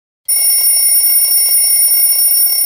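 Early in the morning, an alarm clock rings loudly and continuously after a brief moment of silence, a bright, steady electronic tone that holds without pause until the end.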